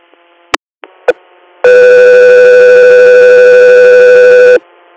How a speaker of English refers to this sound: stand by for tones.